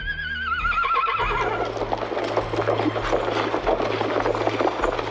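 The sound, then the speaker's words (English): A horse whinnies loudly at the start, then steady clip-clopping hooves and the low rumble of a moving carriage continue over a constant hum, with no one speaking. “Come, my dear, your carriage awaits.”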